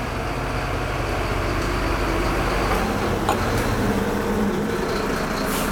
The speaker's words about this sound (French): Oh, celui-là, il va être bruyant. Ouais, camion.